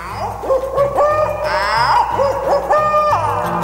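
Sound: owl hooting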